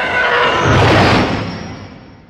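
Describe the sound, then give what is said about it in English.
The Star Wars TIE Fighter enemy spaceship roar: a loud, harsh roaring screech, made from a car passing a microphone on wet pavement, swells and sweeps in a broad wash of noise, with shrill elephant growls layered on top, then fades steadily over about two seconds. “The first being the sound of a car passing by a microphone on wet pavement. And then layered on top of that are these elephant growls, these horrible elephant growls.”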